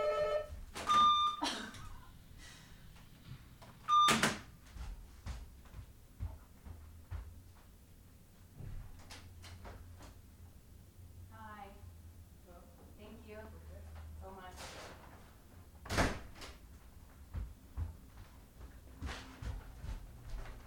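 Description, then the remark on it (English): A door is opened and later shut, with sharp thumps and rattles, a couple of short electronic beeps early on, and faint muffled voices talking in the background. “And also, I answer the door half naked, and they could always tell that I'm naked because when I answer the door, I'm like, the only thing peeking out is my forehead.”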